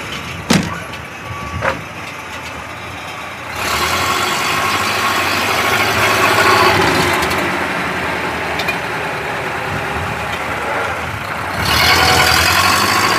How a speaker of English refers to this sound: That was Bill Craigie with his 1935 Albion lorry.